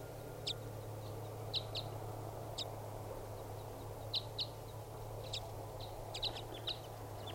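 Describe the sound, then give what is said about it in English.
A small bird gives short, high chirping calls in scattered pairs and clusters, repeated irregularly over a steady low hum and soft background noise, with no one talking. “Recording the bird.”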